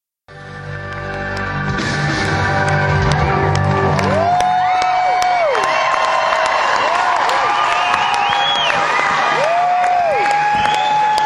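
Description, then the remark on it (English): A large concert crowd cheers and applauds without letup as the band waves goodbye, throws out drumsticks and takes a final bow leaving the stage, with shrill whistles and whoops rising and falling above a dense, loud wash of clapping and shouting. “This is to the crowd as they went off the stage.”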